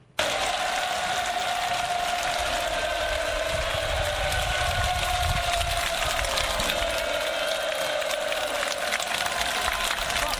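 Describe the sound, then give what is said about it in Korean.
A large crowd of Pyongyang residents in North Korea roars and cheers continuously outdoors in the dark, a dense wall of voices and shouting that stays loud and steady throughout, with faint clatter mixed into the din. “함성 소리 때문에 잘 들릴 수 있는지 모르겠지만 현장에서 직접 녹음한 음성입니다.”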